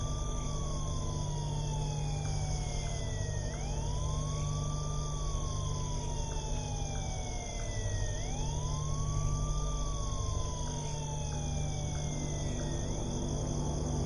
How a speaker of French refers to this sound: Alors que l'air commençait à manquer dans son tombeau, il entendit un très faible bruit. Un bruit de sirène de police.